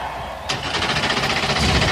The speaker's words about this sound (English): Engines come to life on the pit lane as the Bandit flight team comes overhead one more time on a perfect day to go short track racing in Martinsville, Virginia.